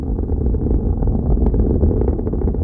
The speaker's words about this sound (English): I asked him why is it that in the course of a normal launch, we sometimes hear not only a deep rumbling and roar, but also this kind of crackling and popping sound.